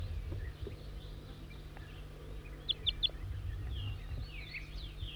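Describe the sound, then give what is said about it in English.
A wild bird gives three quick, high-pitched chirps in a row, followed by softer, fainter twittering, all over a steady low background rumble. “Now the wild bird's in a service berry here, next to the net site.”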